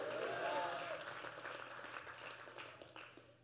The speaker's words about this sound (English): Clap your hands and shout hallelujah.